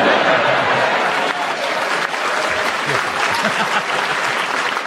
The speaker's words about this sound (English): I will give you a bonus point for cheek and for the fact the audience applauded you, but it was utterly incorrect.